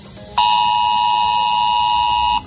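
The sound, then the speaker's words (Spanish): A mobile phone emergency alert tone from Spain's Dirección General de Protección Civil sounds as one loud, steady, buzzy beep at a mid pitch, holding unbroken for about two seconds before cutting off abruptly, with no talking over it. “Bueno, cualquier cosa puede significar el recibir un sonido como este.”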